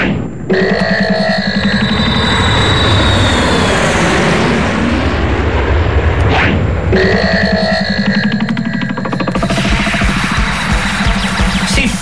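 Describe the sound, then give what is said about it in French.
A small airplane's engine roars loudly as it comes in to land on the roof of an apartment building, briefly cutting out partway through before surging back with a rattling, buzzing drone. No one speaks. “Bah quoi, y a pas de place. Alors je me gare sur le toit de l'immeuble.”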